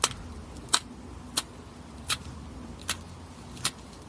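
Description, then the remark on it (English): A yellow-margined box turtle (Cuara flavomarginata) makes a series of six sharp, dry clicks with its vocal tract, evenly spaced under a second apart, over a low, steady background hum. “We pulled up some samples from one species of turtle, Cuara flavomarginata.”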